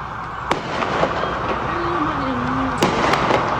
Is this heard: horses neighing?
no